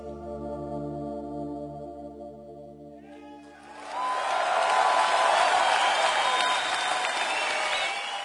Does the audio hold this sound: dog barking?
no